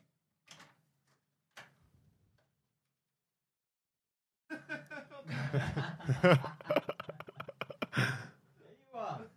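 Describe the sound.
A door opens with two soft, brief clunks as a man comes in through it. After a pause, several voices break into loud, excited talk and laughter.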